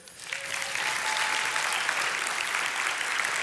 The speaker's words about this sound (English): And they're gonna give you a big round of applause.